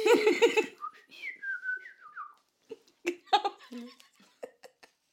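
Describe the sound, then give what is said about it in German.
A wobbly, unsteady whistled tune that wavers in pitch and breaks off, preceded by a short burst of voiced laughter-like sound and followed by scattered breathy, clicky vocal noises; a person who cannot whistle, whistling badly while laughing. “War sogar schlecht gepfiffen, weil ich musste ein bisschen lachen.”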